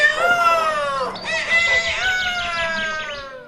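rooster crowing

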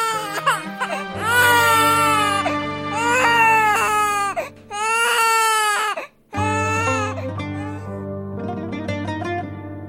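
newborn baby crying

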